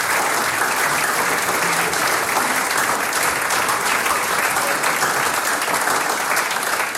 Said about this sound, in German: Ist es nicht schön, wenn die Leute von weit und breit herkommen und wenn sie während des Urlaubes sagen, ich besuche ein Sänger- und Musikantentreffen? Ihr kriegt einen Applaus.